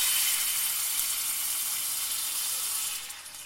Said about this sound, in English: And then what I'm going to do is I'm going to throw in, or pour in, my chicken stock.